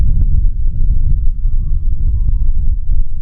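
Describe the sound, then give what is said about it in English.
An emergency siren holds a steady wail whose pitch slowly sinks as it passes, nearly buried under heavy low rumbling and scattered thumps. “We're reminded now with the sirens going by, our first responders, those that are suffering, those that are waiting for hope and help.”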